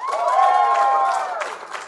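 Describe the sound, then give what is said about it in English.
An audience bursts into applause, giving a round of applause in answer to a question, dense steady clapping mixed with sustained whoops and cheers, loud, holding for a couple of seconds before starting to thin out. “Anyway, now just by round of applause, who has heard or seen the podcast before?”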